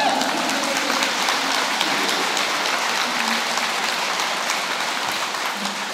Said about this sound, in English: I feel like we need a clap after that.